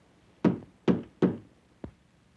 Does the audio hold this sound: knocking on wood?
yes